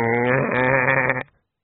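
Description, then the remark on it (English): A single sheep bleats once, loud, a wavering, nasal cry lasting just over a second before cutting off into silence. “The sheep wasn't even trying to struggle.”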